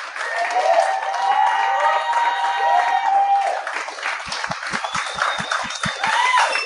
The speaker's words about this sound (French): Bon, fait que cette semaine au podcast, je reçois, commence à les applaudir tout de suite. Maude Landry, Charles Beauchesne, applaudissez-les.